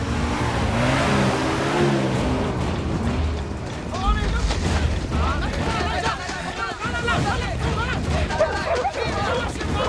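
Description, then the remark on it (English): A heavy lorry engine rumbles and revs loudly as it pulls into a forest clearing, its droning pitch shifting as it moves, while a commotion of shouting voices and clatter builds as troops dismount, over the steady mechanical roar. “A lorry pulls into a clearing and more troops dismount.”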